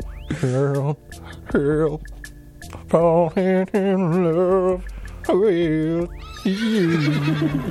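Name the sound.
horse neighing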